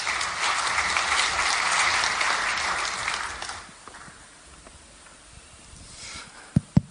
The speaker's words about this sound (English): So give them a round of applause and welcome to stage.